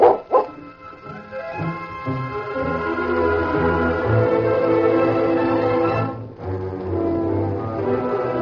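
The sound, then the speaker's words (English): A dog, Duke, at a ranch gate by a trail, growls and barks as two horsemen approach: two sharp yaps followed by a long, loud run of snarling barks that breaks off briefly and then starts again. No one speaks. “Suddenly, the dog growled and barked as two horsemen approached.”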